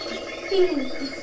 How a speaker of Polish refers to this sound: Wszyscy przez tą chwilę słyszą dzięcioła. Pamiętacie, jak opowiadałam o dzięciole czarnym? Teraz słychać, jak nawołuje do siebie samice. I było też słychać bębnienie.